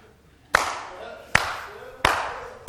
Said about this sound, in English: And they are just listening, and people start, it's like the coach clap.